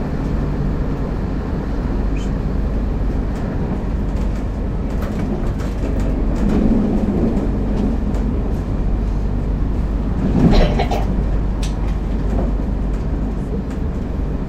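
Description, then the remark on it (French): A train rolls steadily along the rails with a constant low rumble and rattle, broken by a brief louder clank around the middle; no one speaks. “Pas assez métaphorique, le train.”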